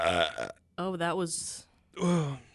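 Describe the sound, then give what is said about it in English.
A loud, throaty burp that comes out in three rough, voiced bursts separated by brief pauses, its low pitch wobbling as it drags on, with a short airy hiss between bursts. The burp tastes of carrots, which were eaten earlier. “Oh, it tastes like carrots.”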